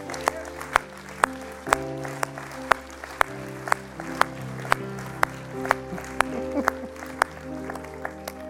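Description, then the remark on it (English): An audience claps in a steady rhythm, roughly two sharp claps per second, celebrating people who came forward to be prayed with, over sustained keyboard or organ chords that change beneath them. “Everybody's clapping because they're all celebrating with you.”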